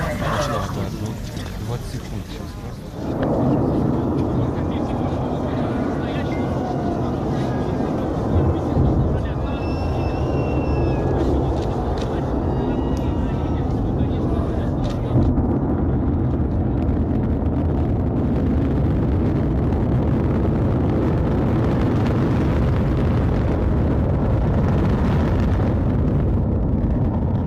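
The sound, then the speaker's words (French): A Soyuz rocket launch roar bursts in after about three seconds and holds as a loud, steady, crackling rumble, with faint voices or cheers briefly audible beneath it. Liftoff is at about 2:20 a.m. under a perfectly clear sky, in cold of nearly minus 30 degrees; the ground trembles. “Il fait jour en pleine nuit, le sol tremble, la puissance dégagée par la fusée est incroyable, 20 millions de chevaux. Soyouz s'élève dans le ciel, largue ses 4 boosters vides, continue de monter.”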